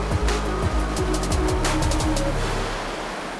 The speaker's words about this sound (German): Tatsächlich ist der eben noch zugefrorene Fluss zu einem reißenden Strom geworden. Auf den Wellen tanzen entwurzelte Baumstämme.